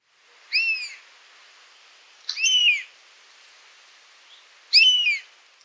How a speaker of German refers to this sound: Der Wespenbussard.